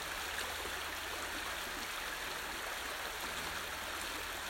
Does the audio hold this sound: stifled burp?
no